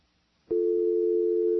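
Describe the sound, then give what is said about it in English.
After a brief quiet moment, a steady dial tone from an X-Lite softphone call attempt comes on abruptly and holds unbroken at an even, fairly loud level until the end. No one speaks. “Our X-Lite phone doesn't seem to be working, so we'll try it again here.”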